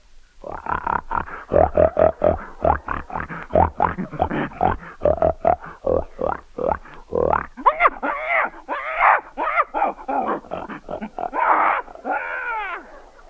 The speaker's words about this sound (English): A pig.